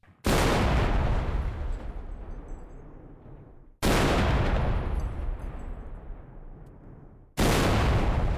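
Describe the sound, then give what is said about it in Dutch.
Three loud cannon shots boom out at roughly even intervals, each a sharp blast followed by a long rumbling decay that rolls on for several seconds before the next shot. “Jongens, Ronald, ik wil gewoon knippen klaar weten hoeveel kanonschoten.”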